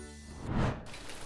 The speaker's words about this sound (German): Psst. Hört ihr das? Ja, richtig. Es regnet.